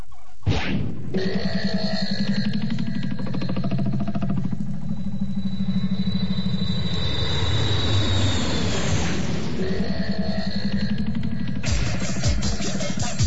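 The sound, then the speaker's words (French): A loud airplane engine warms up, running up and droning steadily for several seconds, its rumbling roar layered with a high, rising whine, then swells into a harsher burst near the end. “Tu fais chauffer l'avion, s'il te plaît ?”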